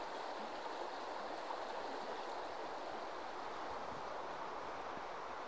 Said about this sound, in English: I always think there's something really quite therapeutic about walking next to a river. You get that lovely rushing, babbling sound of the water